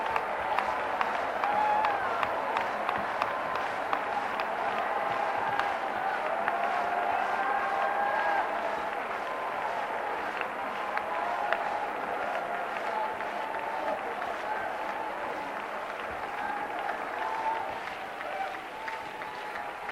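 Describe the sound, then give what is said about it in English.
An audience claps steadily and loudly for about twenty seconds, a dense wash of many hands with faint crowd voices and some cheering mixed in, the applause only slightly easing toward the end. “I want you to clap again in just a moment, but I want you to hear this first.”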